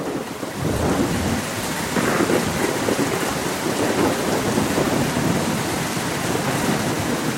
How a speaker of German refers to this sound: Aber wenn sich ein Unwetter ankündigt, denken auch Antje und Niklas Körtgen unweigerlich an das Schlimmste.